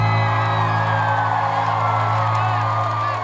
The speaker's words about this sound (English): Give yourselves a round of applause real quick.